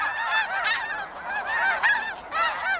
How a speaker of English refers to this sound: A flock of geese wings across the sky in perfect V-shaped formation. It's one of the most enduring images of migration. Step outside and you might hear them, migrating after dark or flying above the clouds, invisible.